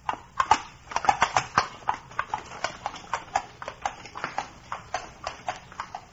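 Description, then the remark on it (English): Horse hooves clip-clop in a brisk, steady rhythm as gentle horses pull a carriage along a hard road. The hoofbeats are clear, with no talking over them. “Perhaps when you have gentle horses.”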